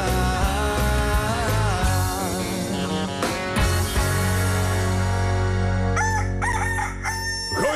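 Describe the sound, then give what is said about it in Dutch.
A rooster crows loudly in the morning, its drawn-out, strained cock-a-doodle-doo calls filling the whole stretch with dense, continuous sound and no talking. “Goedemorgen! Je moet wel gaan werken!”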